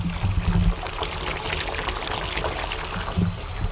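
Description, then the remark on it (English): A bath fills from a running tap in a slightly echoey bathroom, a steady, full hiss of gushing water throughout, with a couple of low rumbling thuds near the start and end. No one speaks. “Definitely hear the bath running.”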